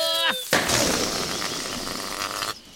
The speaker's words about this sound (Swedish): Oj, ballongen sprack på taggarna. Jag blåser upp en ny.